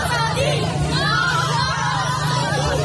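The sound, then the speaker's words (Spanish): A dense, agitated crowd of voices clamors continuously in the street, with overlapping shouts and raised cries, steady and loud throughout, as the Taliban break up a protest by about 40 women in front of the Ministry of Justice in central Kabul, Afghanistan. “Así dispersaban los talibanes una manifestación de unas 40 mujeres frente al Ministerio de Justicia”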